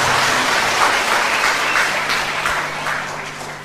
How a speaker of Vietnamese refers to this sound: Một tràng pháo tay để gặp chứng nhân ấy, xin mời.